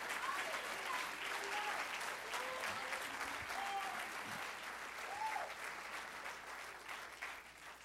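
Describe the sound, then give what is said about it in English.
An audience claps hands in praise to God in a dense, sustained burst of applause, with a few voices and faint cheers rising through the steady, crackling wash of clapping. “Once more, clap your hands unto him and bless his name.”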